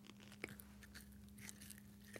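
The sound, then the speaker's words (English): Chewing and crunching of an 'all natural' style gummy snack, with a sharp bite near the start followed by soft, irregular squishy chews, quiet, with no talking. “It's that kind of like all natural gummy snack, even though I'm sure it's not all natural.”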